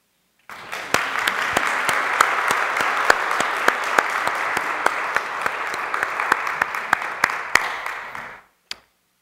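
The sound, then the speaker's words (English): A crowd applauds a girl steadily for about eight seconds, the dense patter of many hands with a few sharper individual claps standing out, then the clapping stops abruptly, leaving one last stray clap. “We're clapping for her because the love that is God makes her exist.”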